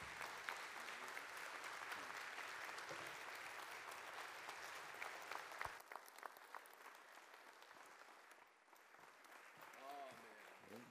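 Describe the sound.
An audience at Gateway applauds to welcome a visiting bishop in the morning, with dense, sustained clapping that thins out after several seconds, leaving scattered claps and faint murmuring voices beneath.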